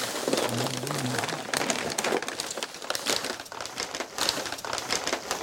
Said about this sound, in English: He takes out different sized bundles wrapped in brown packing paper from the box. He places them on a table and unrolls them.